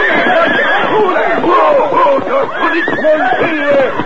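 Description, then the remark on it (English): Several horses whinny and neigh in overlapping bursts as one horse snorts and rears on its hind legs and the other frightened horses jump and buck, their shrill, wavering cries rising and falling loudly for a few seconds with no pause between them. “Immediately, Silver snorted. Reared to his hind legs. The other horses, frightened, jumped and bucked.”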